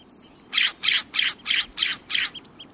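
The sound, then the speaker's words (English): A western scrub jay calls out a series of six harsh, raspy squawks in a steady, even rhythm, each burst loud and scratchy, with no voices present. “Scientists working with western scrub jays conducted experiments with the crafty jays, which played off the bird's natural tendency to cache food.”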